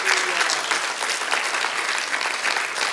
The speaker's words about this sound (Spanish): Al único que puede perdonar tus pecados se llama Cristo Jesús. Dele un aplauso a Él, por favor.